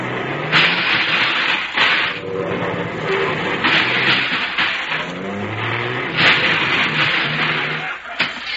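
A heavy bus engine rumbles loudly and continuously, its pitch rising and falling as it revs repeatedly, with hissing bursts and mechanical clatter as the bus maneuvers slowly to park between two cars. No voices are heard.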